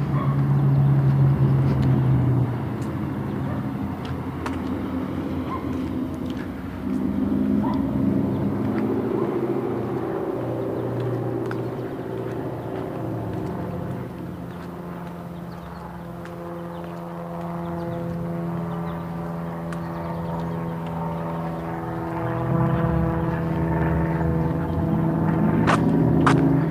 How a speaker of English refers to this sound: Not exactly Sky King, it's a single engine, maybe Cessna, it's high wing. He's been zooming around the neighborhood here, getting in his pilot hours maybe.